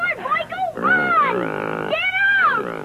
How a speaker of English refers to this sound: Jesus, I didn't mean to make your pig so nervous, Mr. Wilson.